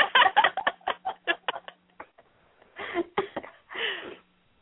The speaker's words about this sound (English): See, because we're talking about it, my voice went scratchy. Funny, as you're saying it, I'm like, I feel like I need to clear my throat.